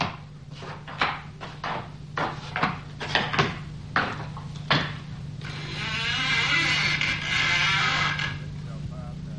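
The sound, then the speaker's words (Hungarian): A series of sharp wooden clicks and knocks, like a latch being worked, followed by a long, wavering creak as a door swings slowly open, fairly loud. “Nyisd ki az ajtót, hogy bemehessünk.”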